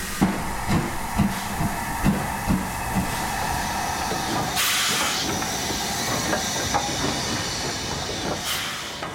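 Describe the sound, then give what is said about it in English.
A steam locomotive, an LMS engine built in 1944 in Derby, about 12 feet high and weighing around 60 to 70 tonnes, hisses steadily while soft, regular low thumps pulse underneath, then a loud rush of steam bursts out midway and again briefly near the end. No one speaks. “LMS engine built in 1944 in Derby.”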